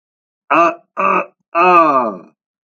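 A man chokes and gasps in agony: three loud, strained vocal bursts, the last one longer and sliding downward in pitch, with no words spoken.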